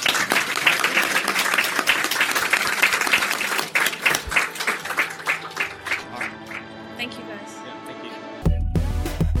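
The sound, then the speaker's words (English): Audience applause for panelists at the end of a BioWare-focused convention panel: a burst of dense clapping that gradually thins into scattered claps, then cuts off abruptly into a different, louder sound. “Big round of applause for our panelists.”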